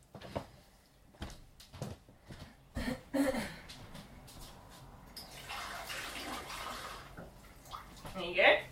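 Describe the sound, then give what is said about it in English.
Water is poured into a cup, a steady splashing pour lasting a few seconds, preceded by light knocks and handling sounds, with faint voices in the background. “Do you want more water?”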